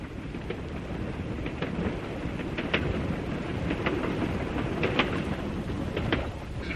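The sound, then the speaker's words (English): A steady, dense rumble of an express train to London running on rails, with irregular sharp clacks over the wheel noise, continuous with no voices. “However, eventually we were relaxing on the express to London, with our trophy safely stowed in the luggage van at the rear of the train.”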